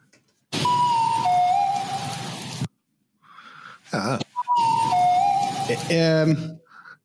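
A breathy, ocarina-like melody from the Zelda game Hyrule Warriors: Age of Calamity plays in two bursts over a hissing noisy bed, with a short warbling tone between them and a quick rising run of stepped notes at the end.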